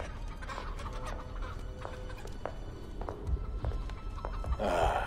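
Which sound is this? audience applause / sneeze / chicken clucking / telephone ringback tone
chicken clucking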